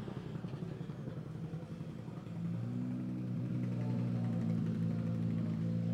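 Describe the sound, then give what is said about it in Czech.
The engine of rally car number 19, a Škoda Fabia R5 driven by David Tomek and Marek Zeman, rumbles low, then at about two seconds swells into a steady, loud roar with strong droning harmonics that hold and climb slightly in pitch to the end. “My slyšíme burácení motoru. Je to číslo 19, je to David Tomek a Marek Zeman ve Škodě Fabia R5.”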